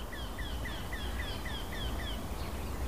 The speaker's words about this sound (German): Es gibt ja tatsächlich Leute, die meinen, dass der Ruf irgendwann nervig sein soll. Oder besser gesagt, der Gesang. Dieses Quäkende. Ansteigend in der Geschwindigkeit.